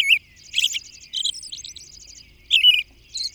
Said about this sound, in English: Then, as evening comes on, the same robin interweaves these phrases with exquisite whisper-like notes from its personal treasury of 75 to 100 different whispered notes. The potential song variety is amazing. The musical results, enchanting.